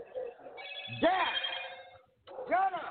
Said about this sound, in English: Okay, and you need to turn the notification off on the phone. That's very irritating.